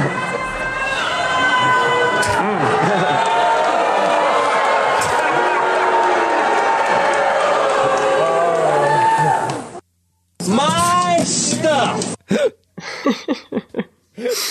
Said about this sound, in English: It's the audience reaction that's so funny in this one. Like, he thinks he's making a really funny joke, and then you can literally hear booing and hissing. Like, people are like, no, how dare you spoil what the next season is going to be.